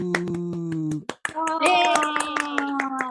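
Quick, steady hand clapping welcoming a soprano singer as the second guest of the day, pattering through the whole moment, mixed with a sustained tonal musical sound that shifts pitch partway through. The claps are fairly loud.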